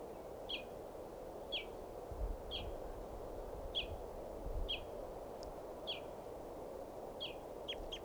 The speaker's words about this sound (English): Stop. That was him. It's recording. This is bird 519.